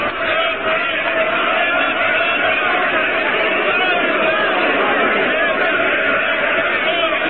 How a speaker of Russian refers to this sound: Широкие лестницы и коридоры Смольного заполнены разноголосой толпой. Картузы и кепки рабочих, папахи солдат, черные матросские без козырки.